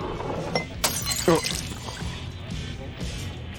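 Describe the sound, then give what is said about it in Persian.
A thrown drink glass smashes with a sharp crash and tinkling shards, followed by a second bright clink, set against a busy background murmur of a crowd. “خب یه نوشیدن یه خنک میخوام، فقط خواهشن دیگه پرتاب نکن”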